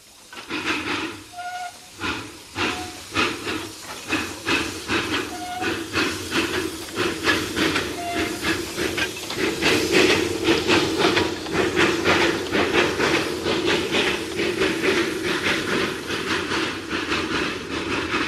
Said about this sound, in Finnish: ei ole nyt mitään takeita, mutta ainakin höyryveturi saadaan täältä aikaiseksi ja luotetaan siihen, että se on mielenkiintoinen ja hyvä ääni.